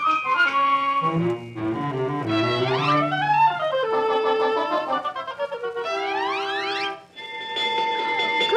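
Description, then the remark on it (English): A loud electronic alarm cycles through shifting patterns: stepped, buzzing tones, then rising whooping sweeps, repeating with a brief gap near the end, with no voices. “That's a three-alarm warning from the conscience.”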